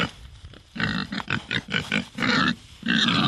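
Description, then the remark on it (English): Pigs of specialty breeds, such as Large Blacks and Berkshires, grunt and squeal on a farm in North Burnett in a busy series of short bursts, several animals vocalizing one after another with brief pauses, loud. “At its peak, the farm had close to 600 pigs of specialty breeds, from large blacks to Berkshires.”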